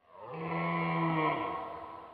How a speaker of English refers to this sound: This is a giraffe.